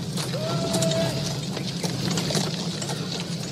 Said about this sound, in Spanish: Tratamos de identificar qué escuchábamos. Carruaje, caballo, piso de tierra. Gente ahí vendiendo, hablando.